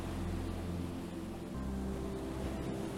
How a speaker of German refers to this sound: Du blickst hinauf, siehst die Segel straff gespannt im Wind. Millionen klitzekleiner Tröpfchen sprühen durch die Luft, brechen das Licht. Du schmeckst Salz auf deiner Zunge. Das Boot schneidet sich wie ein Pfeil durch die Wellen.